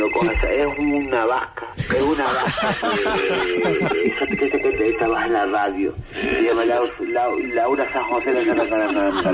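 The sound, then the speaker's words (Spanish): A telephone rings in the background, a steady tonal ring running under lively overlapping talk and laughter from several people. “El teléfono está subiendo y está sonando de fondo, oye.”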